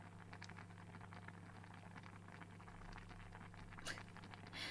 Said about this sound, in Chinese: 只是水开了，鸡蛋没有撞击底部的声音，让它再煮一会儿。